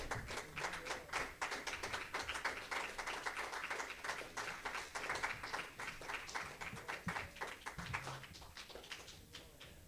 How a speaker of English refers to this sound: Let's just give the Lord another hand clap because he's worthy. Amen. Amen. Praise you, Lord Jesus. Amen.